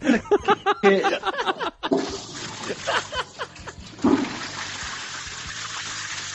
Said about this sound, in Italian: Aspetta che apro un po' di rubinetti. Ecco, abbiamo aperto questo.